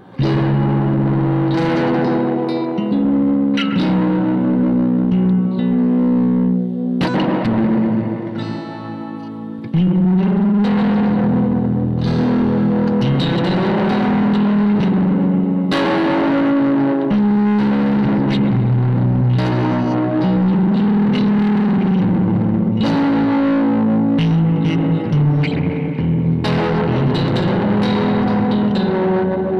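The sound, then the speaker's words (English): An electric guitar plays sustained chords through a Death by Audio Reverberation Machine reverb pedal, producing a loud, washy, slightly distorted wall of sound that rings on continuously, with a short dip partway through. “Now entering the Death by Audio Reverberation Machine.”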